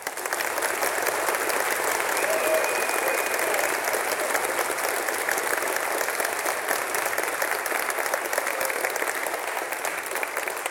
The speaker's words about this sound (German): Bitte hier einen großen Applaus.